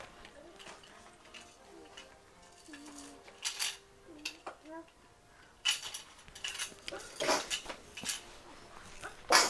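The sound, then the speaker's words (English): A short, sharp sneeze bursts out near the end, among scattered clinks and household clatter, with soft voices talking quietly in the background. “Bless you, sweetie.”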